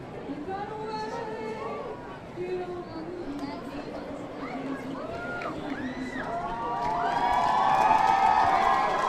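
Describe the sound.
A large crowd at Anime Fest sings to each other over constant chatter and scattered clapping, while plastic balls are thrown back and forth and knocked through the air. Overlapping voices rise and fall in loose, wavering melodies, and the whole din swells louder toward the end.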